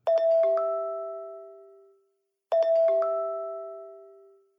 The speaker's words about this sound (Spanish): Ahora Miguel escucha el bip de su celular.